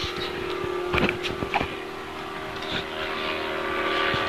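A steady, broad engine drone from an airplane passing overhead fills the whole recording, with a low hum running underneath and a few brief knocks and clicks.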